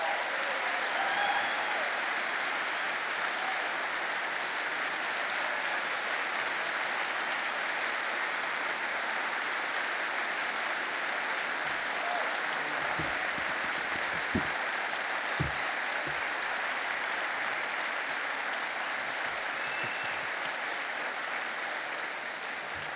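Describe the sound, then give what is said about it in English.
Sustained applause from a large Harvest audience welcoming Dr. James Dobson, introduced by Pastor Greg Laurie, a steady dense clatter of clapping at an even loudness throughout, with no voices standing out. “Let's give a warm Harvest welcome to Dr. James Dobson.”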